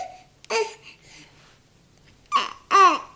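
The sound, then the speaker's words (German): A baby babbles in short bursts of high, vocalized coos and squeals, with brief pauses between the sounds. “Und zwar eine oh, jetzt muss ich ganz kurz mal hier Baby versorgen.”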